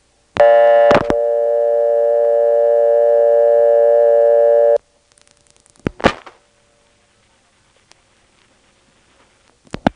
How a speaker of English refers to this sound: There's that same tick, but while waiting for the operator to answer, there's no audible ringtone.